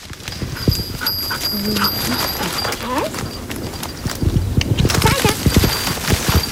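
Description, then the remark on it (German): A search dog barks insistently at the spot of its find, a missing person or a clue, signalling it to its handlers: repeated bursts that grow louder and more rapid toward the end, with a few whiny pitched yelps and outdoor background noise. “Und der Hund geht uns dann den Fundort zeigen, macht ihm dort Platz. Richtig tönen tut das dann ungefähr so.”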